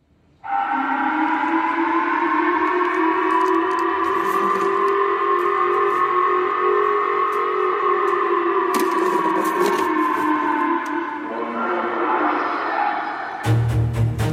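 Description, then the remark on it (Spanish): A steady, sustained civil defense warning siren wails for over ten seconds, its layered harmonic tone holding a constant pitch with slight waver, then breaking up into noisy clatter before an abrupt cut. The alarms were activated by the Japanese government in some of Japan's cities over the threat of a missile falling on its territory. “Lo que escuchamos fueron las alarmas que el gobierno de Japón activó en algunas de sus ciudades ante la amenaza de la caída de un misil en su territorio.”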